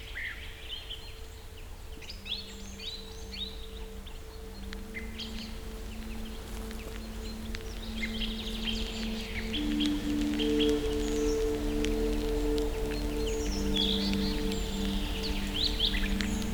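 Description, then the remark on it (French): Several birds sing and chirp at once in the Loutchenets Forest as evening falls, marking their territory for the coming night, their calls overlapping continuously against a low steady hum and faint background noise, with no voices. “Les oiseaux commencent à chanter, enfin, à marquer leur territoire pour la nuit qui va bientôt tomber.”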